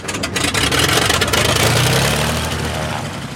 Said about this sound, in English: But here we go on the Key West float plane, as though a water landing would be a happy ending. Which this one does turn out to be.